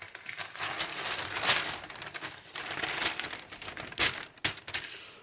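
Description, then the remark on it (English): Two large 8-foot square, shiny-sided sheets of washi paper crinkle and rustle continuously as they are folded, origami-style, into a hazmat suit, with sharper crackling bursts now and then. No one speaks. “you'll know that Marriott Frinton, the origami master, had started to show us how you can make your own hazmat suit out of two pieces of 8-foot square, shiny-sided washi paper.”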